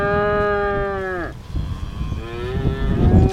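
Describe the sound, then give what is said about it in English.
Cows moo loudly on a farm in Southwest Missouri on a very windy day as a farmer tends to them, one long sustained low call that falls off at the end, followed by a second moo starting, over a steady rumble of strong wind buffeting outdoors. “is tending to some of his cows on a very windy day on his Southwest Missouri farm.”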